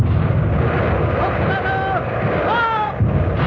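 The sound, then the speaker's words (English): The warship Artemis's guns opening fire toward the Italian flagship in a steady, heavy roar of booming rumble, with high whistling tones sliding through the din twice before the barrage swells again at the end. “Guns ready. Open fire.”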